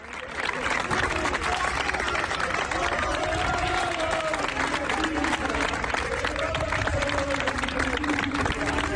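A large crowd of Mallorca fans applauds steadily while voices rise together in a sustained chant for departing coach Luis García Plaza after his farewell press conference. The dense clapping and singing fill the space continuously without a break.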